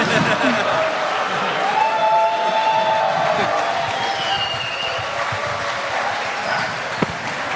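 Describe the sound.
An audience applauds steadily for several seconds, a dense and fairly loud wash of clapping with scattered cheers and voices mixed in, easing slightly toward the end.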